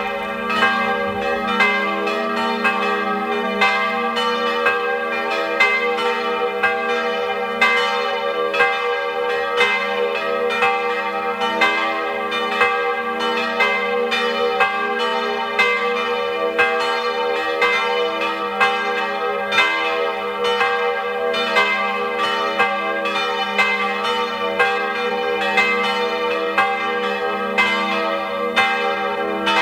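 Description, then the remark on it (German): The bells of the chaplaincy and pilgrimage church Maria Hilf in Griers, a settlement at 1570 m in the Sulztal, Tyrol, ring at 12 noon, pealing continuously with dense, overlapping strokes and a rich, sustained ring, steady and fairly loud throughout with no voices present. “Sie hören die Glocken der Kaplanei und Wallfahrtskirche Maria Hilf in Griers im Sulztal in Tirol.”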